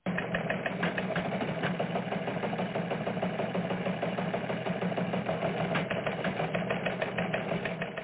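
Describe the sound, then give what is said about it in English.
A teletype machine sound used to open a news show, clattering away in a steady, rapid mechanical chatter, dense and continuous for the whole stretch, with no voices over it. “You get a theme, you get a teletype sound, and away you go.”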